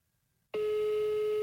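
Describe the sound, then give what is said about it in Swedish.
After a moment of near silence, a steady electronic ringing tone from a phone call starts abruptly and holds at an even, fairly loud level, with no one answering or speaking. “Inget svar, va?”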